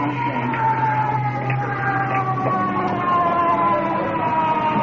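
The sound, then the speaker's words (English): An ambulance bringing an iron lung arrives, its siren wailing steadily with rising and falling tones sustained throughout, fairly loud over a low engine rumble, with no voices heard. “Let's hope that's the iron lung.”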